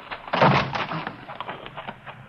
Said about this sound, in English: Must be a back door in the kitchen. Yeah, there it is. Hit that side door.